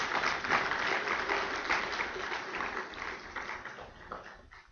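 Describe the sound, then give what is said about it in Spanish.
A crowd claps steadily for several seconds, applauding a man who has just recited John 3:16, a dense rattle of many hands at fairly even loudness that tapers a little toward the end. “Sí pueden aplaudir.”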